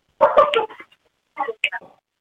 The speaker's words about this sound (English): Dogs barking. Yeah, it's the dogs barking. Yeah, dogs. I have a hound dog, and he's got the loudest bark ever, so I was trying to make sure everybody was quiet